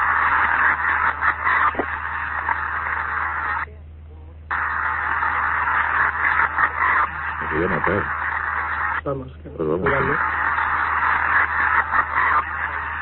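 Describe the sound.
A recording played backwards: a hissy, band-limited wash with garbled, voice-like warbling sweeps, broken by two brief drop-outs of near silence.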